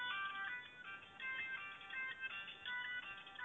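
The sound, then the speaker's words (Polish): A phone rings with an incoming call from a listener: a bright, electronic melodic ringtone, its tones repeating in quick rising-and-falling phrases throughout. It plays alone at a moderate level, with no one speaking. “Przepraszam, że Wam przerwę, mamy właśnie telefon od słuchacza, otwieram.”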